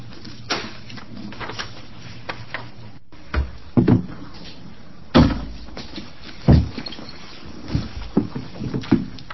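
Three chairs are dragged and shuffled into place at a legislative committee hearing on House Bill 3628: a series of irregular wooden scrapes and dull thumps, a few louder knocks among softer rustling, with no one speaking.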